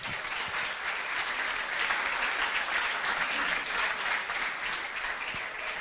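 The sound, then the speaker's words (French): Sustained applause from an audience at a live broadcast of the Capi Service programme on artificial intelligence at the Université protestante au Congo, the audience applauding themselves; a dense, steady wash of clapping that holds at an even, fairly loud level for the whole stretch, with no voices standing out. “Applaudissez pour vous-même.”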